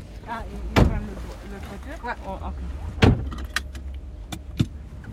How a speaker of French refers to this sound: on a repris la voiture, on est dans la voiture, on est en train de rouler.